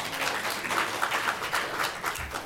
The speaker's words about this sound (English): Excellent. Very good. Big round of applause